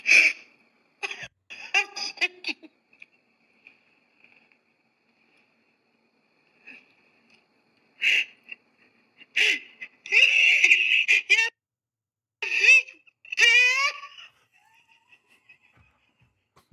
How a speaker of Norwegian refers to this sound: Nei, gråter jeg fortsatt. Og hukken er det fremdeles. Hva skjer? Det gråtes mer enn sist.